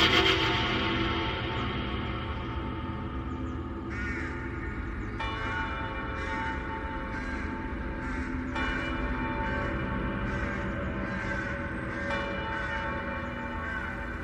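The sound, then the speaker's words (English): Wedding bells at Pleasanton toll faintly in the distance across the desert sand, their overlapping strikes blending into a continuous, resonant ringing that carries on for the whole stretch with no voices. “In the distance, I heard the faint toll of wedding bells ringing out across the sand.”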